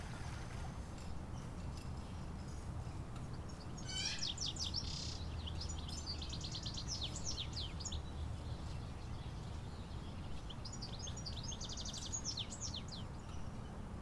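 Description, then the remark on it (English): A bird sings varied, rapid phrases of shifting chirps and trills, a songbird mimicking the calls of at least 20 other species, in two bursts over a steady low rumble of background noise. “He can imitate the calls of at least 20 different species.”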